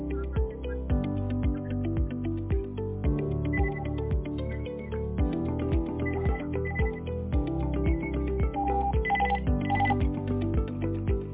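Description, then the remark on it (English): A telephone ringtone plays a steady, looping electronic melody for several seconds at moderate volume, with no voices over it. “I'm on the phone for the vets at the moment, so... Well, they left a message for me, so I'm trying to call them back. And you're trying to ring me as well.”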